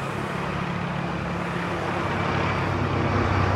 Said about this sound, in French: Ah oui, il y a des hélicoptères maintenant qui me survolent.